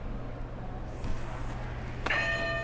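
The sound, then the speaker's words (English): A game buzzer goes off once near the end, a sudden bright, ringing tone with shimmering high overtones that sustain, over a steady low hum and no talking. “Alright, can you hit a buzzer to start us off?”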